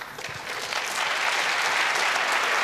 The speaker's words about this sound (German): Ja, ein mehr als richtiger Applaus dafür.